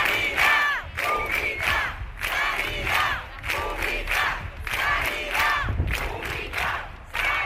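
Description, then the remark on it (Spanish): A large protest crowd at the doors of the Servicio Andaluz de Salud chants slogans in defense of public healthcare, including "nuestras vidas no pueden esperar", in loud, rhythmic bursts of many voices shouting together, with brief dips between phrases and a steady low rumble underneath. “Nuestras vidas no pueden esperar, y gritos en defensa de la sanidad pública.”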